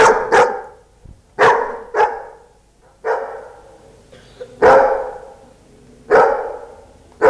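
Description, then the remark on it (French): A dog barks eight times, loud, the sharp barks coming singly at uneven intervals with short pauses between, the first two nearly back to back, counting out the answer to four plus four during an arithmetic lesson. “Pas besoin de tableau noir pour dire combien font 4 et 4. 8 aboiements suffisent.”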